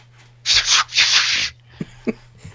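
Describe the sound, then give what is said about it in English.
Two loud, gritty scratching bursts of a cat kicking up litter in a litter box, followed by a few short scattered scuffs, over a faint steady low hum. “That would be my cat kicking up litter.”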